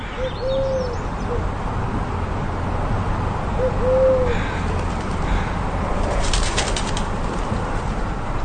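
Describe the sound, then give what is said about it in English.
A collared dove gives two soft, hollow coos several seconds apart over steady outdoor background noise in Alaska, early on a June morning during a heat wave, heard through an open window, followed by a brief burst of fluttering wingbeats as two doves fly past. “On day three, I was sleeping with the window open early one morning during Alaska's June heat wave when the collared dove came to me.”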